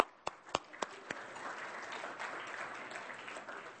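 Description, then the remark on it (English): A few sharp, separate claps open, then quickly swell into steady, dense applause from a crowd giving themselves a round of applause for caring about something bigger than themselves, holding at a moderate level until the end. “And I also like you all to give yourselves a round of applause for caring about something bigger than yourselves.”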